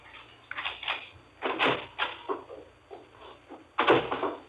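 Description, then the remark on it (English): A man's footsteps come up the walk to a front door, a handful of firm, slightly uneven steps growing louder, with no voices around them. “Mrs. Morris heard him chuckle, then his steps up the walk to the front door.”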